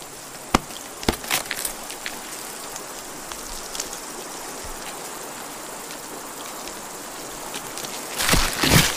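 A knife cuts through mutton with a few sharp chopping strikes early on, then steady background hiss, and a louder rough scraping burst near the end. No one speaks.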